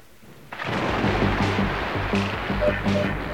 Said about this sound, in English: It was thunder.